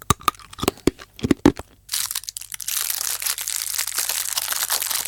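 Crinkly plastic candy wrapper being unwrapped as someone opens a sweet, starting with several sharp separate crackles, then turning into a continuous rustling crinkle, fairly loud, with no talking.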